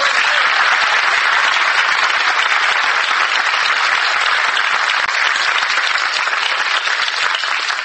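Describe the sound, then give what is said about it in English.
Sustained studio audience applause welcoming host Jack McCoy at the start of the panel show Second Generation, a dense, steady wash of many hands clapping at a loud, even level for the whole stretch, with no voices standing out. “Thank you, dear friends, for that spontaneous applause.”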